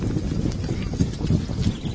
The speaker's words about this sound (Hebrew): מה זה הסוס הזה? נראה כמו חייל בבלי שדו. וואו, תראה עוד כמה חיילים. להיכן הם דוהרים?